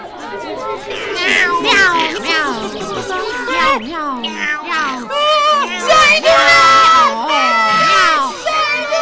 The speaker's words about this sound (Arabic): وفجأة يا أحبائي شاهد صغار الدجاجة قطة تقترب منهما، وقد بدأ الخوف يزداد، والقطة تقترب ولا تزال تقترب أكثر فأكثر. لهذا شعر بخوف كبير وعرف أن القطة تريد أن تؤذيهما، فصرخا.